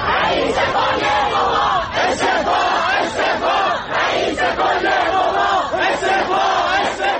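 protest crowd chanting

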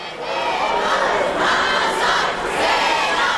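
protest crowd chanting

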